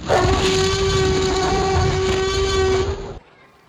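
A Tyrannosaurus gives a deep, raw roar that blasts loudly for about three seconds, holding a steady, droning, almost horn-like tone over a rumbling low end before cutting off abruptly.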